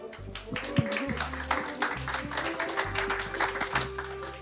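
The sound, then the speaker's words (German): A crowd applauds steadily for several seconds, a dense, even patter of many hands clapping at once, with a low steady hum running underneath. “Und damit habe ich jetzt noch eine letzte Bitte an euch, nämlich einen ganz, ganz tollen Applaus”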